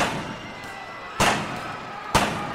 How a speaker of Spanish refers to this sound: Chalino le dispara 3 balazos a quemarropa al Chapo Pérez